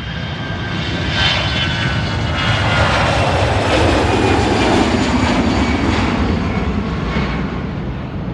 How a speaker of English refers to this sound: On this past Sunday, a JetBlue aircraft took off from Palm Beach Airport, but soon had to declare an emergency and return to the airport due to a bird strike. Let's have a listen.